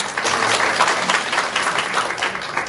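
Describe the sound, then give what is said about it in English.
Steady applause from an audience, a dense wash of many hands clapping at an even, sustained level with no pauses and no voices. “Applause is only 10 seconds per person, okay?”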